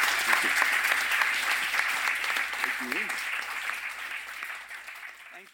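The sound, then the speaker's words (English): An audience claps steadily for the guests, a dense wash of applause that holds strong and then gradually thins out, with brief murmurs of voices mixed in. “Thank you very much to everyone for coming down, and a massive round of applause to our guests.”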